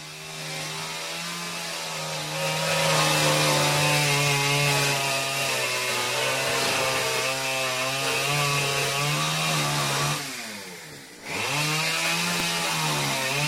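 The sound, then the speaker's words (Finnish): A chainsaw roars outside, loud and steady for about ten seconds, its buzzing engine pitch dipping sharply once near the end before surging back up as it tears a wall to pieces. “Joo, hyvät naiset ja herrat, älkää peljätkö, moottorisahan murhaaja ei ole tullut tontille, mutta Radio Jaska repii oikeasti seinää palaseksi nyt tuolla ulkona.”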